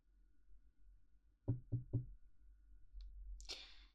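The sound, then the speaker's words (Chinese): Three firm knocks on a door in quick, even succession, clear, followed by a soft shuffling rustle against a quiet low hum; an older sister knocking on her younger brother's door, asking him to open it. “是姐姐，把门打开，快！”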